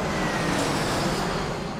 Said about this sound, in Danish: Døren står svagt åben, så I kan høre flyverne udenfor.